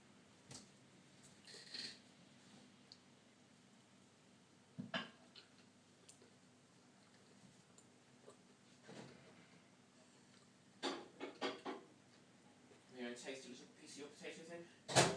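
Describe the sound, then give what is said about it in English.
A microwave door is opened with a sharp click and clunk to warm up food, followed by a scattering of knocks and taps; faint voices murmur in the background toward the end. “Door open.”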